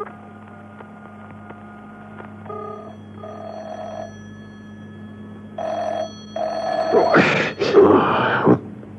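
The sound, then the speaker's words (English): A telephone call to a car telephone rings unanswered at the other end, two steady electronic ring bursts over a low hum, followed by a loud, rough groaning noise near the end. “listened intently to the phone ringing at the other end. There was no reply.”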